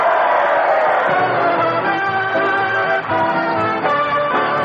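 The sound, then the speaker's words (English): A crowd of students yells and cheers in a loud, steady roar for several seconds, many voices blending into a continuous din with sustained shouted tones rising above it. “For those fine yells and that spirit of the season”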